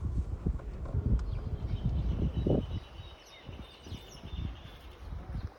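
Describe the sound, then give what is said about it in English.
Horses at a small farm, being prepared for pato practice, shuffle and clop their hooves on the ground in an uneven rhythm, with faint birds chirping in the background outdoors. “We arrive at a small farm where the horses are being prepared for pato practice.”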